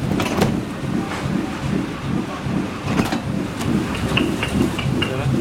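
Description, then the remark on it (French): An intaglio banknote printing press, the Super Orlov Intaglio machine, runs steadily during the relief printing stage, a dense low rumble carrying a repeated rhythmic thudding, with occasional sharp metallic clicks over the top and no voices. “Là, on se dirige vers la machine Swat, Super Orlov Intaglio. On entend son fonctionnement.”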